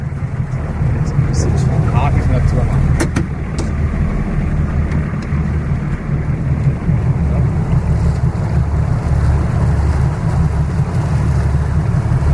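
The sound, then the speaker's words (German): A motorboat engine drones steadily during a test run as part of a boat safety inspection, a deep continuous rumble mixed with rushing wind and water noise that holds at an even loudness for the whole stretch. “Dann wäre das gut, dann würden wir noch Probefahrt machen für das Schiff.”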